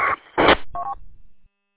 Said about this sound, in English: Hey, you got a squawk when you're on key. We were just trying to figure out what the squawk was.